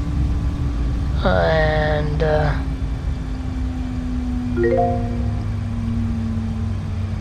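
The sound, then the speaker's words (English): A steady, droning aircraft engine hum runs through the whole stretch at constant loudness, with a couple of brief rising tonal whines layered over it. “The engine will not. There it goes.”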